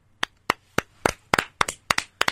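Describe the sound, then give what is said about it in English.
A handful of sharp hand claps welcoming Todd Haley as the Tampa Bay Bandits' new head coach, about nine in a little over two seconds, fairly loud, with a slightly uneven rhythm and a few quick doubled claps, no voices. “Claps all around.”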